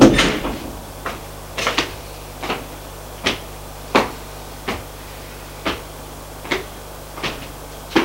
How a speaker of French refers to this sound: Il ouvre une porte, c'est une chambre.